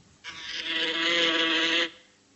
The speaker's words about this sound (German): Eine Biene. Und das hört man nachts im Schlafzimmer hier? Eine Fliege.